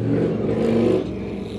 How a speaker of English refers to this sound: That's a loud car or truck to just whiz past my window.